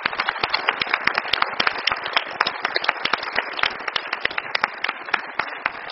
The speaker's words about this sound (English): But I do want to end with congratulations on your work. I think you deserve a big round of applause, a special one.